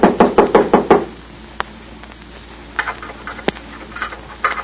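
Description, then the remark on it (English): Five quick, loud knocks on a door in a steady burst, followed by a quieter stretch with a few faint taps and small scraping sounds. “Someone knocked.”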